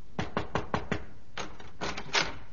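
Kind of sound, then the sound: impact, knock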